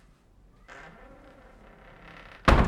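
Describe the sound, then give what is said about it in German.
Soft shuffling movement is followed by a single loud, sharp thud near the end as a father, following the mother out, pulls a door shut behind him. “Betreten zuckt er mit den Schultern, folgt der Mutter und zieht die Tür hinter sich zu.”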